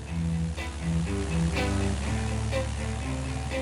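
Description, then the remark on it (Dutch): A small Cessna propeller plane used for aerial photography flies low over the North Sea, its engine droning steadily and loudly, with a rushing wash of air layered over a low, persistent rumble. “Een klein vliegtuigje vlak boven de Noordzee. Het is de Cessna van luchtfotograaf”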